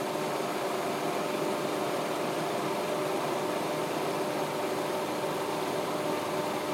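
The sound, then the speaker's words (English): A kitchen appliance motor whirs steadily on the pulse setting as it mixes a flour mixture, a dense, continuous mechanical drone that holds at an even loudness throughout, with no voices over it. “Now, close that, close that, say a prayer, and I'm still using the pulse thing.”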